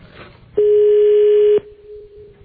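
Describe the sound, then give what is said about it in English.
A foreign telephone ringing tone: a single loud, steady, mid-pitched beep lasting about a second, preceded and followed by quiet background murmur, with a faint trace of the tone lingering afterward. “That sounds like a foreign ring.”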